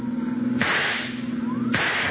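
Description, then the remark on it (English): Two sharp rifle shots crack out about a second apart, each followed by a rush of hissing noise, over a steady engine drone, fired from a pursuing car to blow out a fleeing car's tire during a road chase. No one speaks. “See if you can use that rifle, Dollar.”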